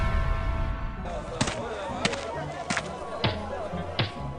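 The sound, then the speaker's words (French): An axe smashes into a door with five heavy, sharp chopping blows, spaced roughly every half second to a second, each a loud splintering crack over a low steady background rumble. “Putain, mais il a détruit la porte!”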